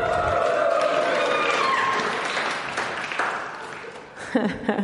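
A crowd cheers and applauds steadily, a dense roar of voices with whistles and clapping that fades slightly before a few louder shouts near the end.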